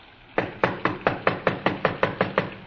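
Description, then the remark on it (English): A rapid, steady run of about eleven knocks on the wooden door of a small redwood house in the San Fernando Valley on a rainy night, each sharp, evenly spaced with no pause and no voices. “Frank tried the door.”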